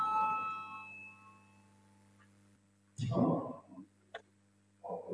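A voting bell rings in a parliament chamber to call a vote on a proposed amendment, its steady tone fading over about a second, followed by a low hum, quiet background noise, then a few brief bursts of murmuring and shuffling.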